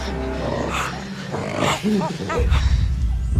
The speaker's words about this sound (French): Sabrina Krief nous emmène sur la piste des chimpanzés en Ouganda cet après-midi sur France Inter.